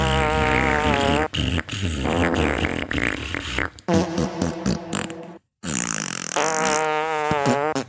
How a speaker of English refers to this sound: No, I'm going to fart.